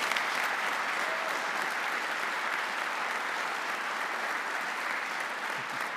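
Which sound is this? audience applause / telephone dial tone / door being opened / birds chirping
audience applause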